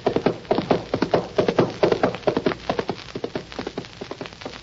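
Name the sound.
horse hooves clip-clopping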